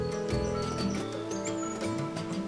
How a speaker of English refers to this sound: The birds and other animals that you hear are alive.